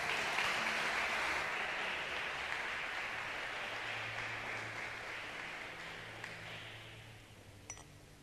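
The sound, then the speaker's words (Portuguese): A crowd applauds steadily, a dense wash of clapping that stays fairly loud throughout and slowly tapers near the end, with a few faint high beeps and clicks. “Deus abençoe vocês, dê uma linda salva de palmas.”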